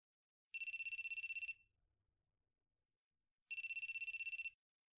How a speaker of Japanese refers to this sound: 男の学生が女の学生に電話をかけています。